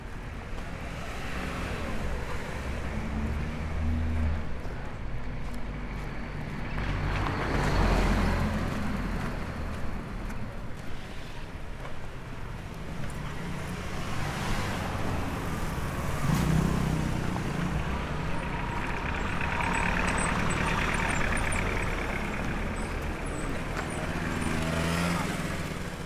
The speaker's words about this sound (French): Et puis le bruit de la rue.